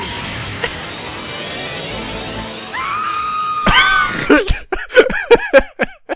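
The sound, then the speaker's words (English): The anime cry of the Pokémon Victory Bell: a raw, guttural human yell erupts after a few seconds of hissing background noise, loud, breaking into harsh, strained bursts of screaming that rise and fall until the end. “It just screams! It's just a guttural, real person yelling.”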